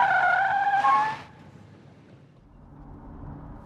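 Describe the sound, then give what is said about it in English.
During a driving lesson, a car brakes hard at red traffic lights, its tires letting out a loud, sustained screech for about a second before cutting off in a short hiss, leaving a low engine rumble idling afterward. “The traffic lights are red. Stop.”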